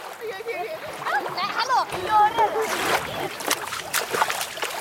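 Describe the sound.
Water splashes and sloshes in a series of bursts as children swim in icy cold water at a lake bay on an outing, with excited voices calling out over the splashing.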